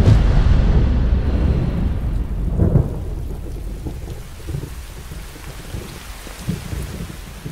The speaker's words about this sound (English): There's a storm coming. It's going to get a lot worse before it gets better.